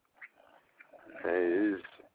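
A person snores once: a loud, buzzy, rasping snort lasting about half a second, preceded by a few soft breathy noises and followed by quiet shuffling.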